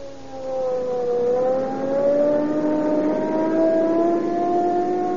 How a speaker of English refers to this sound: Now, there we are. 80 miles an hour. Boy, I'll show you what police car performance means. We'll use every bit of power we can get out of that Rio Grande cracked gasoline.